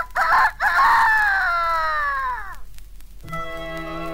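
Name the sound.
rooster crowing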